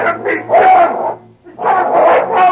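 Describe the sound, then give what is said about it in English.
The dog King barks and growls ferociously as it leaps at and attacks a man, loud, in two long snarling bursts separated by a brief pause, with a low steady hum underneath. “In one blinding flash, the dog spanned the distance that separated him from the killer.”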